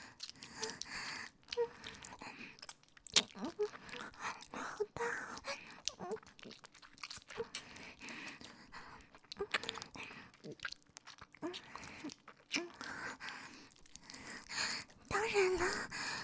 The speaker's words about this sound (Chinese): 接吻的声音啊